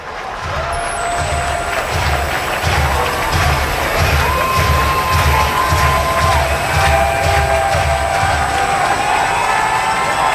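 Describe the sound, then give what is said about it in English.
An opening-night baseball crowd at Huntington Park, on their feet, cheers and roars continuously to push the Clippers to a victory, with scattered whistles and shouts rising above the steady wash of voices and a rhythmic low thumping underneath. “Opening night crowd here at Huntington Park on their feet trying to cheer the Clippers on to a victory.”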